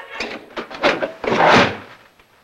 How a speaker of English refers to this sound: Now, in the small dining room, a record spins on the Victrola. Mr. Harrington grabs the needle off the record, then slams the lid shut.